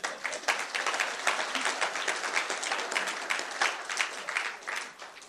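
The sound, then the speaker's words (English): Sustained applause from an audience, many hands clapping densely and steadily for several seconds, fairly loud, with no voices standing out. “Give him a clap.”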